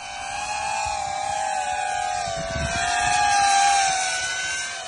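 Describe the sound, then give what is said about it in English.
A small drone flying over a field buzzes steadily with a high, droning whine, its pitch wavering slightly and swelling a little louder toward the end, over a faint rumble of wind. “The volunteers show me a video of a drone flying over a field.”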